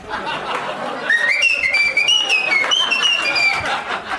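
A person whistles a short melodic tune, bright gliding notes rising and stepping over a few seconds, with background chatter and a bit of laughter underneath.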